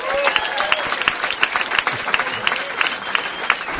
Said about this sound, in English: Applause for everyone there.